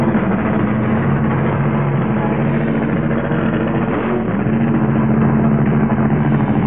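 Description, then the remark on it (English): Racing car engines roar loudly and continuously, a dense, steady drone with a low humming growl that never lets up. No voices are heard. “We have to hold our conversation for a moment because these wild cars can't hear a word.”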